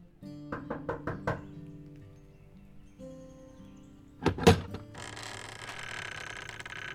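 Five quick, firm knocks rap on the door of a house in Collinsville, Illinois, in a fast, even burst, followed after a pause by a rattling clunk as an elderly woman opens the door onto a steady background hiss.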